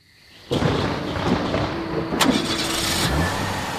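car engine starting

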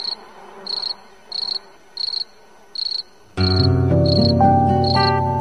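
cricket chirping

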